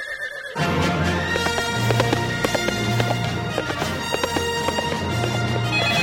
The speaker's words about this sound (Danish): Jeg må flygte på den der hest.